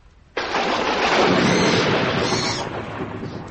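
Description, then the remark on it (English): A loud crack of thunder breaks suddenly, then rolls on in a broad, rumbling roar that slowly eases but keeps grumbling, with no voices present, as a storm grows worse. “That storm's getting worse.”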